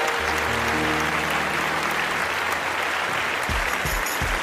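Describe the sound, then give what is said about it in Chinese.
An audience applauds the dean after his lecture, a dense, even wash of clapping that holds at a constant loud level throughout, with a few low thumps near the end. “谢谢，再次把掌声送给”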